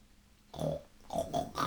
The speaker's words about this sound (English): Grunted the pig.